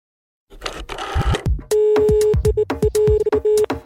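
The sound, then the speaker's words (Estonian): Clicks and rustling give way to a steady electronic telephone ringing tone lasting about two seconds, broken by short gaps and sharp clicks along the line, with no one speaking; a live radio call across the ocean to someone where it is deep night. “Timo Ligeteise pool ookeani loodetavasti telefoni juures.”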